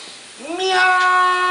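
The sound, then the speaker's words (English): A single drawn-out meow, imitated by an old man meowing at an egg in a Vine video: it rises at the start, then holds a steady, fairly loud nasal tone, with no other talking. “That just made me think of that vine that's like the old guy that meows at the egg.”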